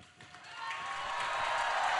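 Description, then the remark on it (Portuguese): Applause from a large crowd of the faithful greeting the Holy Father after his apostolic blessing swells up after a quiet start, building into a dense, steady wash of clapping that grows louder toward the end. No one speaks over it. “Recebemos a bênção apostólica do Santo Padre, que é acolhido pelo aplauso dos fiéis.”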